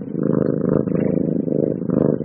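A happy cat purrs steadily and loudly, a low, buzzing rumble that swells and dips in a slow rhythm with each breath, with no other sounds.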